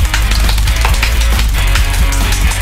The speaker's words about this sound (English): This is because a 9-year-old boy has broken the world record for the most amount of claps in under a minute. Do you want to hear him do it quickly?